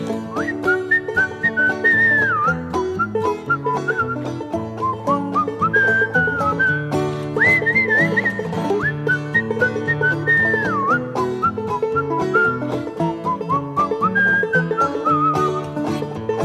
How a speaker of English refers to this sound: Once there was a farmer walking down the road whistling a song like this.